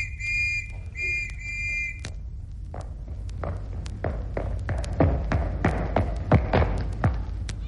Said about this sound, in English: Was that you blowing your whistle?